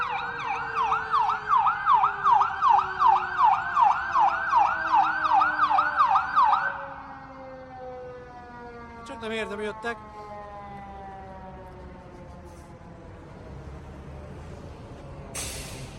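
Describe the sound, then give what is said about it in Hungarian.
A fire truck siren yelps in a loud, rapid warble for several seconds, then cuts out as the truck passes, leaving a fading, falling drone and short bursts of air-brake hiss. “Szóval az ott tett eszembe, hogy ó, hát akkor most megvárjuk ezt a tűzoltóautót.”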